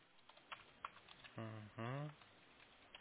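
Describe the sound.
A few scattered keyboard clicks tap out close by, broken up midway by a short burst of voice before the quiet returns.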